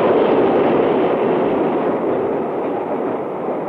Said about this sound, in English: The train screeched to a stop at the station. Norborough! Norborough!